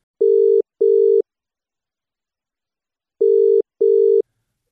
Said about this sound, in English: So just hang on there. I'll dial his number and we'll see if he'll come through.